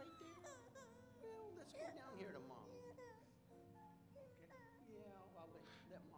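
A baby cries softly during a church baby dedication, fussing and whimpering in short, wavering bursts mixed with babbling sounds, continuous throughout, with no adult speech over it.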